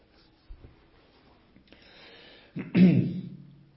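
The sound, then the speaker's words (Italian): Sounds of a speaker taking a sip of water: faint handling and shuffling, then a louder sip and swallow near the end, with no talking. “Scusate che devo bere due gocce d'acqua.”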